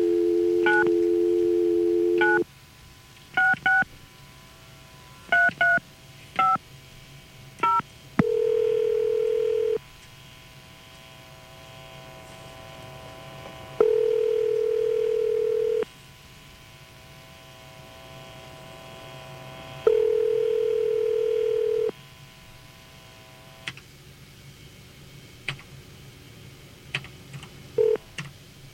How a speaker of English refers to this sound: Okay. Phone ringing.